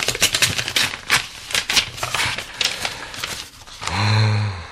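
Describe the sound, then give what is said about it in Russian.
A paper knife slices through the pages of the journal Sovremennik in a quick series of dry scraping strokes, followed at the end by a brief low murmuring voice. “Журнал «Современник» с твоим рассказом. Давай-ка посмотрим. Дай мне мой нож для бумаг.”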